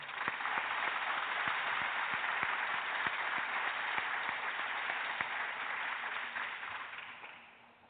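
Steady applause from an audience for the brand manager for Tide, a dense wash of many hands clapping at an even level for several seconds before tapering off toward the end. No one speaks over it.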